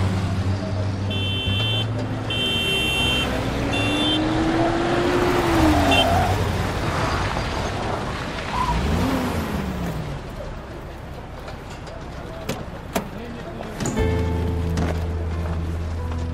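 A car engine runs steadily throughout, a continuous low rumble with a whine that rises and falls mid-way, as if revving briefly, while tonal hums sit alongside at the start and end.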